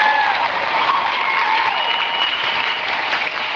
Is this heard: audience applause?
yes